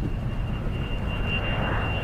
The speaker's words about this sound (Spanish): Se disiparon las dudas cuando pude identificar el zumbido de un par de aviones despegando cerca de nuestra posición. Ese sonido siempre me recordaba al ruido que hacía la lavadora de la casa de papá, sobre todo cuando centrifugaba.